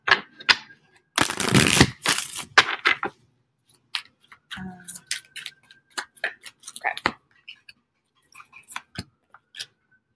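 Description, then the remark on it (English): A deck of cards is shuffled for a card reading, with a dense, loud riffling burst followed by a scattered run of light clicks and taps as the cards are handled. No one speaks. “I'm going to do one more shuffle.”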